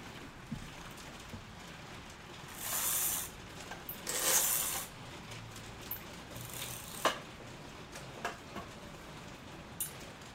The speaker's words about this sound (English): I don't know if you can still hear the rain, but let's hope the mic doesn't get it.